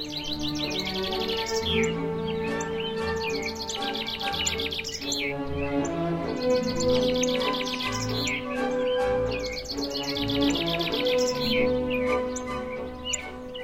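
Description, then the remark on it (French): A dense chorus of birdsong, with many birds chirping and trilling at once in repeating bursts, layered over a steady, sustained tonal backdrop. No one speaks. “Elle vogue majestueuse au milieu d'une grande symphonie d'oiseaux.”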